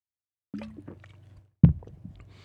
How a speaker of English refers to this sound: Excuse me, I'm going to have to take a sip of water here.